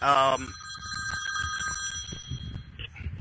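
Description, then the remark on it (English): A telephone bell rings in a short, loud burst, then its bright metallic tone lingers and fades over low background murmuring and shuffling. “That's the past calling now as I turn off my damn phone.”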